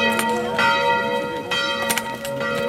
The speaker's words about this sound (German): Das Angelus läuten früh um 7.